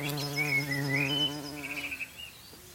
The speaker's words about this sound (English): As they fly overhead, we've got a bumblebee getting some post-Easter nectar from the rhododendrons.